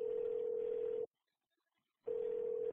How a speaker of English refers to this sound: We are now calling your mom. When you hear the beep, think of something to say.